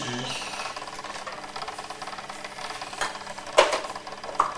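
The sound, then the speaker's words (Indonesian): A blender making juice whirs steadily with a buzzing, rattling motor drone, its tone shifting slightly, then a few sharper clatters and bumps break through near the end. “Buat blender jus.”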